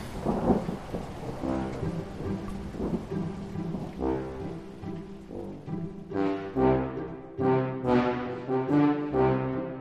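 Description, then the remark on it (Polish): A thunderstorm, with deep rolling thunder and a steady wash of rain, loud. Sustained tonal sounds rise over the storm in the second half; no one speaks. “Pewnie wyjechały na spacer. W taką burzę.”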